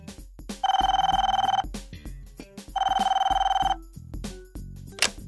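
A telephone rings twice with a buzzy, trilling tone as an outgoing call about an apartment is placed, each ring lasting about a second with a pause between, heard over a soft background of low musical notes and clicks.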